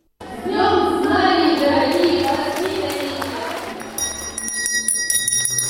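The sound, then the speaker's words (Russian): A symbolic school bell opening a Day of Knowledge ceremony at an academy rings loudly and continuously with bright, clanging metallic tones for about four seconds, then gives way to a crowd's murmur and scattered noise. “По традиции начался День знаний с символического школьного звонка.”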